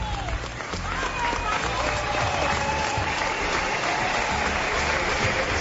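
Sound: ovation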